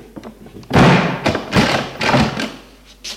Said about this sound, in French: Et lui ferme la porte au nez.